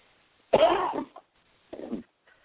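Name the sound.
coughing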